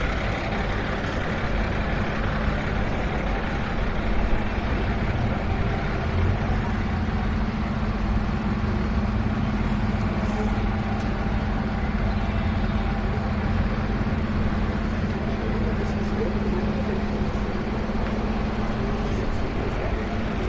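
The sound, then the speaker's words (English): A large pink bus, a women-only service with the front sign 'Servisco Exclusivo Mujeres', idles at a bus station: a steady, loud low rumble with a constant humming drone that holds unchanged for the whole stretch, with faint station bustle in the background. “Now, there's a bus here, there's a pink bus, and on the front of it, the sign says Servisco Exclusivo Mujeres, which I understand as this bus is an exclusive service for women.”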